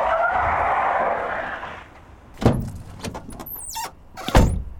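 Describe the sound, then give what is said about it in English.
Mac's car skids in at a front entrance with a long, harsh tire screech lasting a couple of seconds, followed by heavy thumps, a brief high-pitched squeal, and another loud thud as it stops and parks. “Mac pulls up at the front entrance and just parks wherever the fuck he wants to.”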